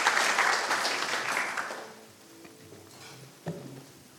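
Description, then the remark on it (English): A church audience claps to welcome a man coming up to share his testimony, a dense, steady burst that fades out after about two seconds, leaving quiet with a few stray sounds and a brief knock. “give him a wee round of applause and welcome here as”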